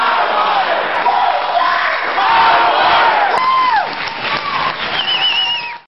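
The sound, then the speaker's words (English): A large crowd at the People's Tribunal on water in Detroit cheers and whoops loudly, voices overlapping in a sustained roar of shouts with rising and falling yells, holding steady for several seconds before tapering off at the end. “are the sounds of the People's Tribunal on water in Detroit.”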